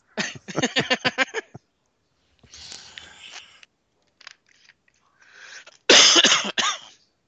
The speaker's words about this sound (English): So if you hear coughing, I'm not going to edit it because I'm too fucking lazy.